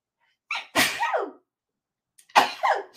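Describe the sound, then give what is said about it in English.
Two loud sneezes about a second and a half apart, each a quick sharp intake of breath bursting into a forceful, breathy explosion, with silence in between. “Thought I was going to sneeze again.”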